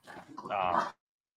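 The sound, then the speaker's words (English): A brief burst of pet dogs fighting and scuffling, with a high, strained whine rising out of the growling near the end before it cuts off abruptly. “As my dogs fight behind me”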